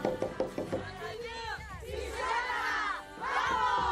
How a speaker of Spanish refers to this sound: Conforman un equipo de piragüismo, deporte en el que el esfuerzo, la coordinación y la unidad son fundamentales para obtener el triunfo. En cuanto echan sus canoas al agua, se escucha su grito de guerra.